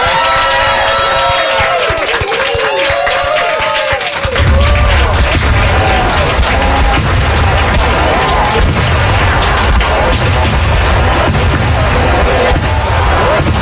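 Fireworks burst and crackle in a dense, continuous barrage, with whistling rockets rising early on before loud booms fill the scene, accompanied by crowd noise and cheering throughout.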